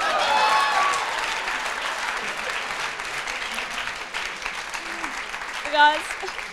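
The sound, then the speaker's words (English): A group applauds steadily throughout, many hands clapping in a dense continuous patter, with faint voices underneath and a short high-pitched whoop near the end. “Hey, clap lah, wey!”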